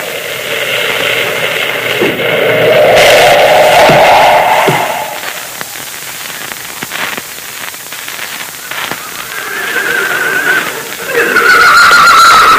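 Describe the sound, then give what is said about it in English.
A horse named Rainbow whinnies loudly and at length, its rising and falling neigh ringing out, followed by scattered clops and shuffling as it comes to a halt at the base of a mountain, then a second shrill whinny at the end. “Moccasin's horse, Rainbow, stopped at this spot.”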